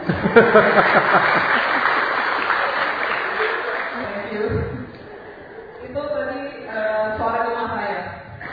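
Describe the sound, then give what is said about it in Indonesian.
A burst of audience applause, a dense patter of many hands clapping for several seconds, fades out; people then start talking afterward. “Tepuk tangan.”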